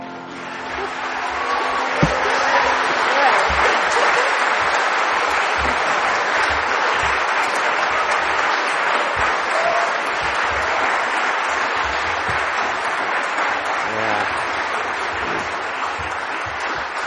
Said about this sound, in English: Yeah, I can tell embarrassed applause.